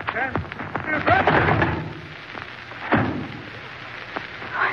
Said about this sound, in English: What did I do? Hit him so hard. Candlestick heavy in my hand.